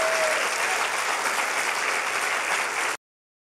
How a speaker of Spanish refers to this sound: Y sí, dale un fuerte aplauso a Él.